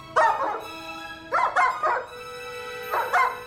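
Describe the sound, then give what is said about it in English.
A dog barks in three quick bursts of two or three sharp, tonal barks each, fairly loud, with a faint steady hum underneath and no talking. “They step away from the cage and the sheepdog looks over at the chimp, who jerks its head up and down and barks like a dog.”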